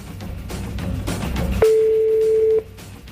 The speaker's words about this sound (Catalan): Que soni el mòbil vermell.